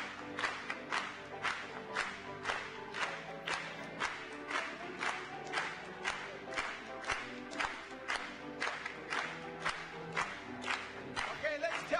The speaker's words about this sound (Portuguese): Vamos bater palmas mais uma vez.